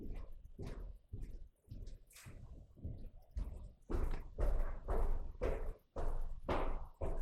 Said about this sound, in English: I just heard footsteps walk from that room on the left. Like creaks? Like footsteps.